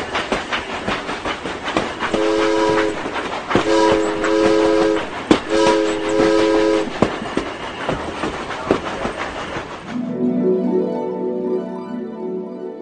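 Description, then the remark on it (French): A steam tramway on the Piégut line in France rumbles along its rails, loud, sounding three short bursts of its whistle. Near the end the running noise drops away, leaving a low, steady droning tone. “Le tramway de Piégut dérive d'un rêve.”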